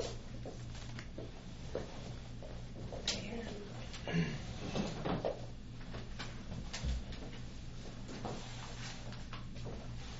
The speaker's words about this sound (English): Yeah, I think we have to move those chairs down.